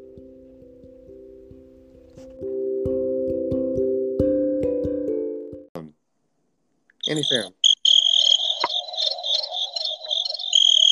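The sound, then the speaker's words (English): A low, steady harmonic drone fades out, and after a short silence a sound effect of a dense chorus of crickets starts up, chirping continuously in a high, shrill, fairly loud trill. “Oh, no, crickets from the audio. Crickets.”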